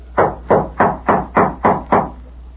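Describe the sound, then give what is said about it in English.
A quick, even run of seven footsteps approaching a door, each a firm thud with a short ringing tail, steady with no voices over them. “Me hear footsteps.”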